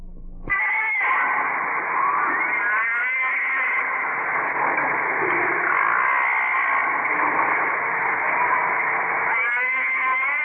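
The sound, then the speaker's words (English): Underwater recording of humpback whale song: long, wavering moans and wailing cries with rich overlapping harmonics, swelling and bending in pitch continuously for about ten seconds, with no voices. “These are underwater recordings of the humpback whale, now almost extinct.”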